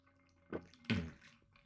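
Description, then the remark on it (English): Two quick wet bursts a moment apart, like someone taking a sip of water and swallowing, over a quiet background with no talking. “Grab a sip of water here.”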